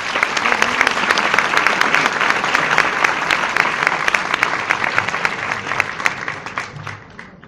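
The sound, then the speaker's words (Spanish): Sustained audience applause for a rabbi invited to begin a talk, with dense, crackling hand claps, loud and steady for several seconds before thinning out slightly toward the end. “Para eso pido un fuerte aplauso para Rav.”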